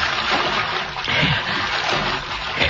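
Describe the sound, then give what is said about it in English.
Steady splashing and sloshing of water as a man wades through a creek bottom at night in spotty moonlight, continuous, with churning surges of movement and no voices. “Gotta throw those dogs off the trail. He gotta wade the creek, even if it is full of cottonmouths.”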